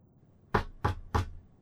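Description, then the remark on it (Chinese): Three sharp knocks on a massage room door in a steady, even rhythm, clear, with no voices around them. “我听到了敲门的声音，随后按摩房的门推开了一点。”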